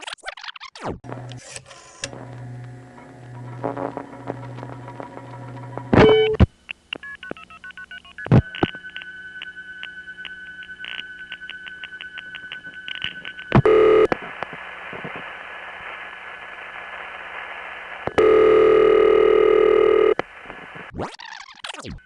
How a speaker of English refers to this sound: Oh, yes, it did. In fact, let's take another listen to the way this call went through, starting with the last digit dialed on a rotary dial phone.